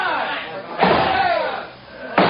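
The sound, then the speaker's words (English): Two heavy, booming blows strike a door about a second and a half apart, each one loud, as men break through it, while a crowd of indistinct voices shouts and clamors throughout. “They're breaking through.”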